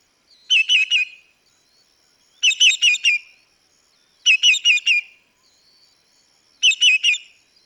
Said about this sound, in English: That sounds like a hungry bird to me